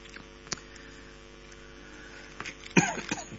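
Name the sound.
coughing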